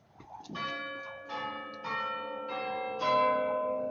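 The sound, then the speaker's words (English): Church bells chime the second quarter of the hour in a loud, resonant sequence of about five strikes, each ringing tone overlapping the last and building into a sustained, shimmering wash, with no voices. “The second quarter of the hour. And the chimes held no encouragement for Trotty at all.”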